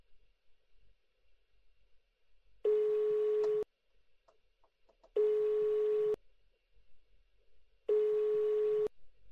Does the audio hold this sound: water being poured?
no